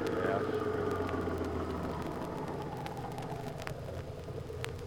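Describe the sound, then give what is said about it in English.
A car engine hums steadily as the vehicle drives along, a constant low rumble with road noise and a few faint clicks and rattles layered on top. “Keep driving.”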